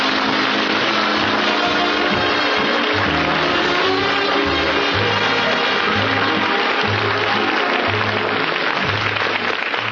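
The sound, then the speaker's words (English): An audience claps loudly and continuously to welcome Phil Harris, a dense wash of hand claps lasting the whole stretch, with a low droning pulse running faintly underneath and no voices standing out. “I can't tell you how much it means to me to have me come out here after all these years all by myself, and you're all applauding and got those smiles on your faces and glad to see me.”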